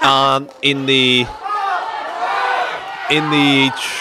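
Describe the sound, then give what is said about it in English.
A crowd cheers, with three loud bursts of sustained, steady-pitched shouting and whooping separated by a rougher, continuous roar of many voices. “As you can hear, there's a bit of cheering there.”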